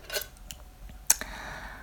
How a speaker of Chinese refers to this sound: 这两把钥匙呢就放到两位主人的手里啊